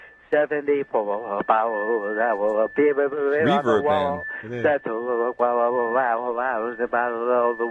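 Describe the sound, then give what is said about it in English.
A single voice sings the line "74 bottles of beer on the wall" from a counting song, drenched in heavy echoing reverb that smears the notes together, with a faint steady tone humming underneath throughout. “Reverb, man.”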